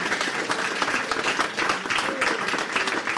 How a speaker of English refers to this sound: Would you like to come up? Can everyone give him a round of applause, please?